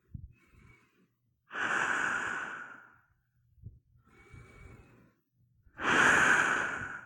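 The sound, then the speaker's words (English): Deep, loud breaths drawn through a gas mask with no filter fitted, each inhale carrying a slight whistling tone, with softer, rougher exhales in between; two big breaths in all, no talking. “When I take a big, deep breath, you can hear.”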